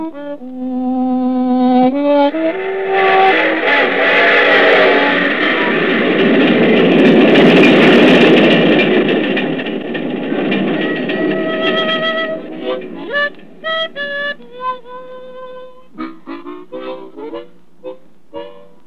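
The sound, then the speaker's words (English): A train rumbles along the tracks with a loud, steady roar, preceded by sustained multi-tone whistle blasts and ending in a series of short, clipped horn-like toots as it passes. “I'm a-taking the train to home.”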